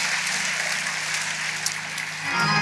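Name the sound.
audience clapping hands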